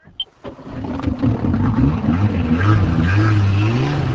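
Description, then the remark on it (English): A jet ski engine on Hanawha Pond in northern New York sputters and catches with a few brief bursts, then settles into a loud, steady buzzing drone whose pitch slowly climbs as it revs. No one speaks. “It's a jet ski.”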